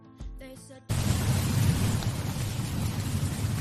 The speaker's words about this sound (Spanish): Bueno, ojalá pudiéramos escuchar una tromba como esta, ¿eh?